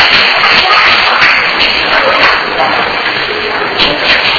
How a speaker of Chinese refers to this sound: 没有，好，拍手一下。